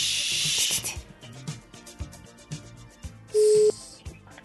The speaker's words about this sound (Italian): Vediamo se squilla.